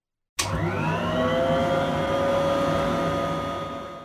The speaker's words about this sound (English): Wow! Amazing! Using RoboVacuum is a wonderful way to clean your house.